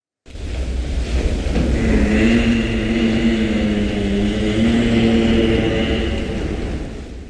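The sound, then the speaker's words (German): A giraffe hums in a low, steady drone with stacked harmonic tones that waver slightly in pitch, sustained for about seven seconds over a soft rushing background, with no talking. “So summt eine Giraffe.”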